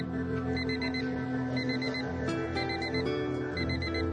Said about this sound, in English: I turn off the alarm.